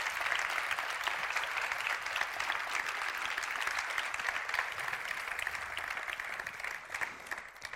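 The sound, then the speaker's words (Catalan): Sustained audience applause, a dense wash of many hands clapping steadily for several seconds at fairly even loudness, with no one speaking over it. “Doncs un fort aplaudiment per a ells.”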